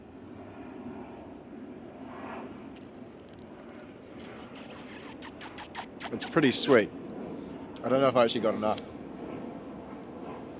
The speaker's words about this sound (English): So we've got a plane going on in the background there to sort of add to the sort of ambiance.